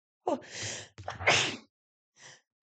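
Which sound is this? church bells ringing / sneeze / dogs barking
sneeze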